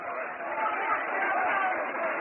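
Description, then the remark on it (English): A baseball crowd roars during a play with Rusty Staub at bat, a dense, steady wash of massed voices that holds at full strength for a couple of seconds, sounding muffled and narrow like an old broadcast. “You'll hear a roar from the crowd.”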